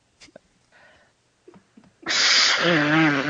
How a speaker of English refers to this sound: I have to blow my nose.